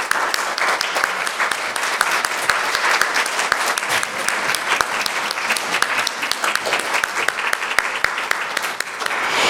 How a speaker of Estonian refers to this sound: Ma tahaksin lõpetada veel ühe aplausiga. Teeksime suure tänu ka meie kõikidele muusikutele ja ühtlasi ka Jumalale. Aitäh!